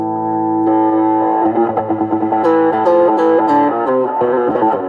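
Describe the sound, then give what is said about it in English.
Electric guitar playing a distorted riff, with distortion added over a clean tone that is always present, sustained chords ringing into quick rhythmic picked notes, loud with no voices. “So I got that clean tone is always there. I add the distortion in.”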